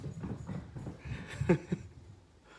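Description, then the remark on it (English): A new puppy named Maisie gives two short, high little yips in quick succession, preceded by soft, irregular low thumping and rustling noises. “We got a new puppy.”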